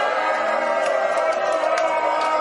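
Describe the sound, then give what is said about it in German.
A large crowd in Berlin cheers goals at a match against VW Wolfsburg in a loud, continuous roar, dense and steady throughout, with brief sharper shouts and whistles rising above the wash of voices. “Das kann man wohl sagen, Sie hören es am Jubel.”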